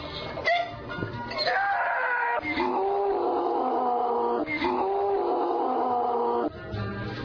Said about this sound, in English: Method two, you could always scream at it.